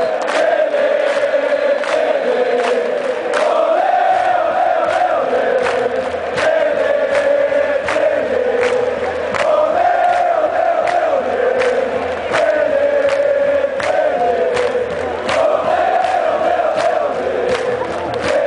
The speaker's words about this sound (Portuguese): ergueu a taça e incendiou o Morumbi aos gritos da torcida.